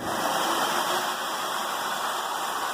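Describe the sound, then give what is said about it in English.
A bathroom hand dryer blows a steady, loud rush of air, with a thin high-pitched motor whine running over the roar the whole time and no break or change. “Ugh, it was a hand dryer from a bathroom.”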